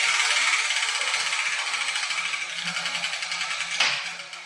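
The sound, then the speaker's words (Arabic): A steady rapid rattling and clicking of a spinning letter wheel with balls tumbling inside runs throughout, slowing slightly before a brief louder clatter near the end as the ball for the Arabic letter Ta (ط) drops out. “انظري انظري يا ياسمين إلى الكرة التي سقطت من الدولاب”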